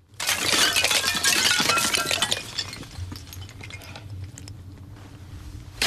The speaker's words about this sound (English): He looks up at the icicle-festooned crevasse in front of him, then hammers his ice axes into the wall and pulls himself up. He uses one of the axes to sweep some icicles out of his way.